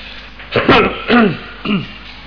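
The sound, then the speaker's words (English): Three harsh throat-clearing coughs in quick succession from a speaker with a lingering chest cough, fairly loud, each a short rasping burst with brief pauses between, and no talking. “Excuse me, continuing to cough. There's still a bit of a problem here.”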